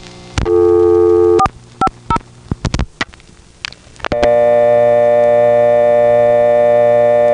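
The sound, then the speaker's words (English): A short steady tone and a quick run of dialing clicks and beeps, as the code 450 is dialed on a phone in the Franklin 4 exchange on Long Island, give way to a loud, continuous, buzzy old-fashioned telephone dial tone that holds steady to the end. “Picking up Larry's phone and dialing 450 would cause it to switch to an old-fashioned dial tone, which his phone normally didn't have.”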